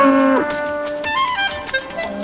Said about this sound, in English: The cattle return.